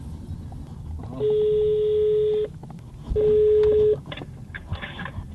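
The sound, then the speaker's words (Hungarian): A phone line sounds two long, steady ringing tones separated by a short pause, then a few brief dialing beeps, all over a low, constant background rumble with no one speaking, as someone phones to book a table for dinner. “Akkor most megpróbálok asztalt foglalni az esti vacsorához.”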